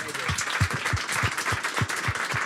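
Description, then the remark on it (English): An audience at an evening event applauds steadily after an interview, a dense wash of many hands clapping, with a few louder claps thumping in a fairly regular beat on top. “And I'll add my applause to that as well.”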